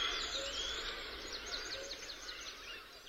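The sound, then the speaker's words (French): A dense chorus of many birds chirps and trills without pause around the long tail of the Roche Talamy reservoir near Murat on 23 April 2006, where drying mud forms crusts after late-March floods; high-pitched calls overlap at a steady, moderate level, with no voices. “Tout autour, les oiseaux s'en donnent à cœur joie.”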